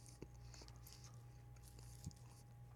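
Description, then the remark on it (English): Close-up crunchy chewing of a lunch salad with blueberries, pecans and strawberry dressing, eaten into the microphone, with soft irregular crunches and mouth clicks over a steady low hum, fairly quiet and with no talking. “I've never ate lunch on a podcast. I was told this would be dope. I hope you don't mind. I'm like chewing in the mic.”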